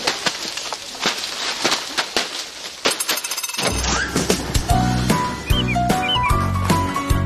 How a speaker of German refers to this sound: Wenn auf einer Streuobstwiese mitten im Siebengebirge lautstark Äpfel runterprasseln und die Leute drumherum ziemlich gute Laune haben, obwohl sie gerade körperlich anstrengende Arbeiten machen